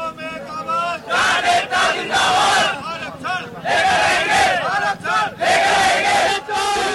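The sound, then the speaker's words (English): A large crowd of protesters outside Delhi, India, shouts and chants in loud, surging bursts, voices rising together in waves with brief dips between roaring cries. “The sounds of protests outside Delhi have left 19 dead and affected the area's highway and water system to millions of people.”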